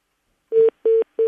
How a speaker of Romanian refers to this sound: Altădată te rog tare mult să rămâi la telefon dacă tot formezi numărul și să încerci să răspunzi.